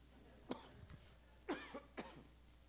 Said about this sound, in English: You shout while I cough here.